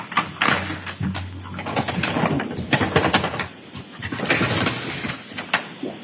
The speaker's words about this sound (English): Do you recognize it? Yes, it's a brown paper bag with a hatchet in it, item 7-13. Could you open that bag and confirm the hatchet's inside?